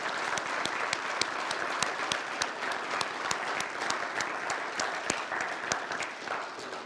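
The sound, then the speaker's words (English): A church audience clapping steadily in a round of applause for helpers, dense overlapping hand claps with a few sharper individual claps standing out, sustained at an even level for several seconds with no speech. “And can we give them a round of applause?”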